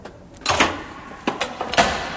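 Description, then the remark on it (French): A door is opened and held for someone: a rush of movement and then a few sharp clicks and rattles from the handle and latch, moderately loud, with no one speaking. “Je vous tiens la porte?”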